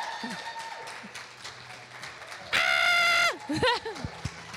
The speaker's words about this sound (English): So, will you please give a big, massive round of applause for Claire Balding, everybody?